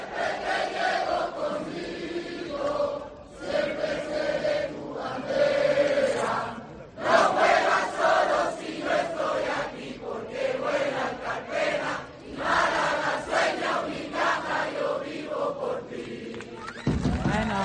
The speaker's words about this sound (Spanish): Campanas de fondo, llegando a Unicaja al Santuario de la Victoria, donde estaban esos aficionados, campanas de fondo y, como no, el himno más sonado en la historia del baloncesto mundial, el himno de Unicaja, a capela por los aficionados.